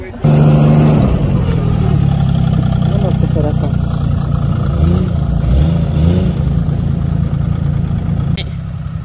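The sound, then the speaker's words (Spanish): A snowmobile engine roars loudly throughout as a first-time driver revs it and drives off, its pitch rising and falling, with a few brief spoken words over the steady motor drone. “Es la primera vez que maneja un snowmobile, pero estoy segura que lo va a hacer muy bien.”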